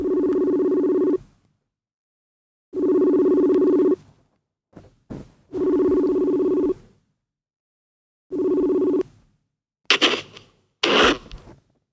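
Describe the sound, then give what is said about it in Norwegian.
An outgoing phone call to a friend who is a doctor rings out: four steady ringback tones with pauses between them, clear, followed by a couple of brief clicks and rustling as the line connects. “Vi ringer han nå, så spør vi hva det kan bety.”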